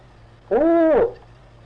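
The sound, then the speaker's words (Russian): A voice imitates a steam locomotive whistle with a single sustained hoot lasting about half a second, its pitch rising slightly then falling at the end, loud against a quiet background hum. “часть ночи гудит паровоз. А? Как гудит?”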